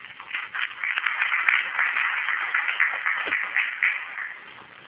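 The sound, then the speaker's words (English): A room full of people at a meeting applauds steadily for about five seconds as the session breaks, a dense, even patter of many hands clapping at a moderate volume, with no one speaking over it. “As we break, I think we all need to give a big round of applause”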